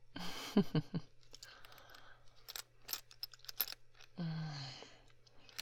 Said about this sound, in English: Now that that button's undone, we just have one pesky thing in the way, don't we? The zipper. Is my mouth being on the zipper a little teasing, huh?